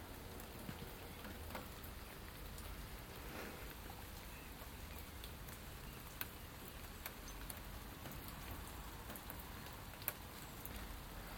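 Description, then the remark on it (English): Raindrops drip onto buckets and shed roofs in irregular, sharp plinks and taps over a steady, soft rain hiss, fairly quiet, with no voices. “Ah, isn't there something magical about raindrops just dropping onto, well, buckets, shed roofs and all kinds of things.”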